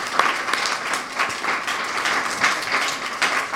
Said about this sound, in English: so maybe we can give him a round of applause.